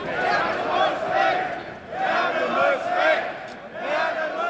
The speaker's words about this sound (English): After we part ways, a shout goes up through the crowd.